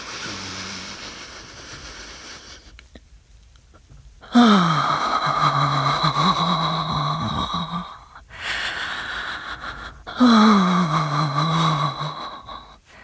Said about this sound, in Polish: Czy możesz wziąć więcej powietrza, zostawić je w środku, a potem zrobić długi wydech. I czy możesz dodać do tego dźwięk?